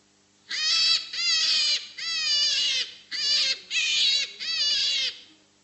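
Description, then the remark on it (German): A series of six loud, shrill, wavering squeals or screams from a rabbit, each lasting about half a second to a second, repeated in quick succession with no talking. “Das war ein Kaninchen, ob ihr es glaubt oder nicht.”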